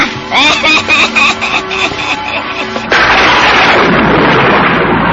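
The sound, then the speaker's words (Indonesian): A sudden loud thunderclap breaks in about halfway through and rolls on as a broad, sustained crashing rumble, following a few seconds of ringing, tonal music. “Kenapa tiba-tiba ada suara petir?”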